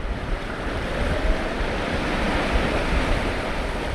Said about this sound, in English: Journalist Nicolae Amhuleze likes to come here and watch the water churn as the river meets the sea.